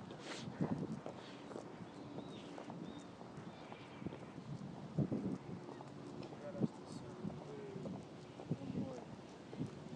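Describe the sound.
Horse hooves clip-clop in a steady walking rhythm throughout, with sharp repeated knocks over wind and outdoor background noise, while people talk.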